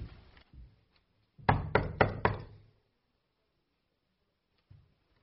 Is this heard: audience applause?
no